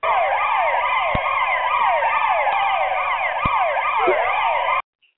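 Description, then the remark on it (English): A loud police siren wails continuously, its pitch sweeping up and down in rapid repeating cycles for about five seconds before cutting off abruptly. “God damn, every time you get in the car, first thing you hear is.”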